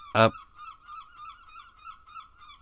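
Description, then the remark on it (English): Seagulls calling: one loud, harsh squawk at the start, followed by a steady run of repeated wavering cries that keep going without a break. “Noisy seagulls.”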